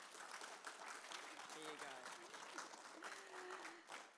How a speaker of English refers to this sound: So another big round of applause, I reckon.